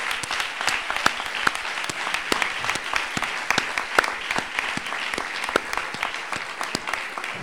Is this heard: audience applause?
yes